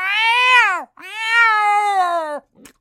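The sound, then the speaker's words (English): A cat lets out two long, drawn-out meows, the first rising then falling and the second stretched longer, loud with no talking, followed by a brief soft rustle. “Feline invasion coming your way.”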